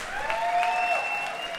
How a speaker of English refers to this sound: Scattered applause for the pharaohs.